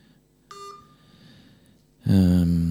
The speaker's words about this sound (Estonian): Oota, mul see telefon kajab.